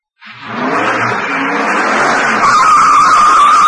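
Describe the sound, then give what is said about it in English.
A car roars off hard to race through a gate, with a loud, sustained rush of engine and tire noise. A high screeching tire squeal rises over it toward the end. Intense, with no voices. “Dan puts his foot down and turns the wheel.”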